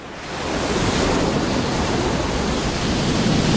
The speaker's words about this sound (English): Waves lash a seafront.